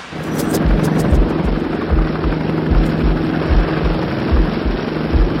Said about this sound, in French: C'est l'arrivée des hélicoptères de transport Caracal qui change la donne. Des commandos du CPA 20 sont héliportés.